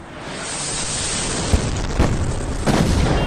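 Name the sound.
missile explosions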